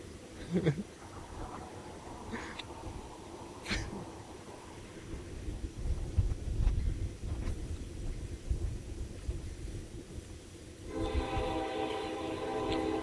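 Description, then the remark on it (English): A train rumbles past with heavy low-end clatter, then a long, loud horn blast sounds near the end, its tones stacked and sustained. “There's a train.”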